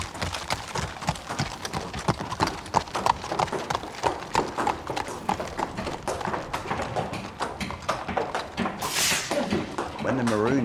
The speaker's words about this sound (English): The boats had to be pulled out by the horses. They were up in a field on the other side of town, and when the maroons went up, which was the lifeboat signal, went up, the horses knew to run to the gate.